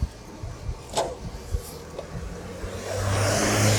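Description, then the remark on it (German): A car engine builds and roars as the vehicle accelerates, the rumble growing steadily louder toward the end after a few brief knocks and clicks. “Da ist der Nächste, der meint, er muss uns zeigen, wie viel PS er hat.”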